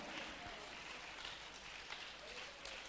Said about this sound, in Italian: Vogliamo applaudire e benedire il Signore. Alleluia.